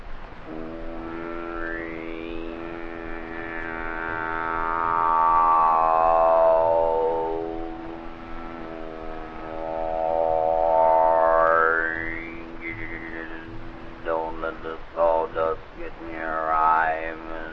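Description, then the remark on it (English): A voice mimics a sawmill saw: a steady buzzing drone with whining pitch sweeps that rise and fall, swelling loud twice, then breaking into choppy bursts near the end. “Oh, it's pretty noisy now since they built that new sawmill. All you hear all day is this.”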